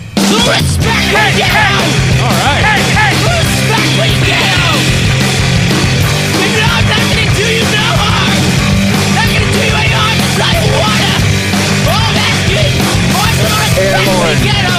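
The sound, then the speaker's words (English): Loud, distorted punk rock cover song plays nonstop, with raw, screamed vocals riding over driving guitars and pounding drums at a steady, aggressive pace. “You screaming like that's …? Yeah, dude. That's me trying to get my punk rock on.”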